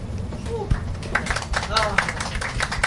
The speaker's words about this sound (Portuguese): Obrigado. Obrigado pelas palmas espontâneas do público, galera.